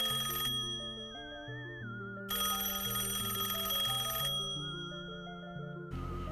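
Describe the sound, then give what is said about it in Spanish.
A telephone rings with a melodic electronic ringtone, a steady run of stepping tones that repeats at an even, fairly loud level for several seconds, with no voices. “Suena el teléfono.”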